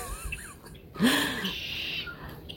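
red-winged blackbird calling

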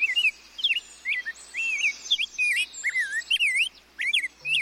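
ultramarine grosbeak song

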